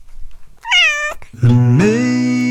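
cat meowing

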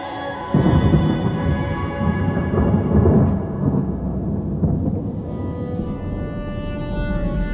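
peal of thunder

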